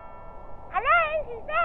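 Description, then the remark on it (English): A voice imitates a doorbell, singing a clear two-note chime with sliding pitch, the second note falling lower, then starting again briefly at the end. “Oh, the doorbell, I wonder who that could be.”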